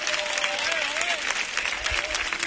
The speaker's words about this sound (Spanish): un aplauso para ellos, por favor.